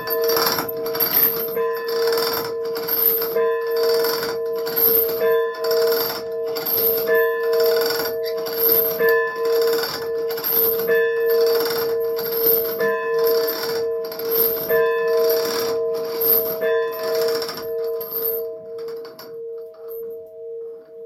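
signal or alarm, church bell ringing

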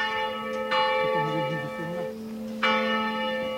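signal or alarm, cathedral church bell ringing

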